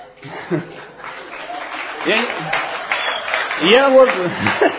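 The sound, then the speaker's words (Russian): An audience breaks into sustained applause in response to talk about sleep, a dense wash of clapping that swells toward the end, with voices and a bit of laughter mixed in over it. “Я вот удивляюсь, почему-то, когда тему сна касаешься, особые овации, особые какие-то...”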